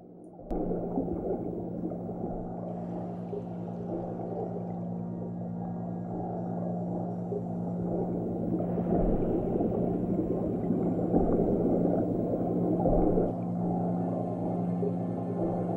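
Muffled underwater sea ambience from the Endless Ocean Luminous game trailer: a steady low rumble with a droning hum, bubbling and gurgling textures, and faint whale-like calls swelling midway, continuous and fairly loud with no talking.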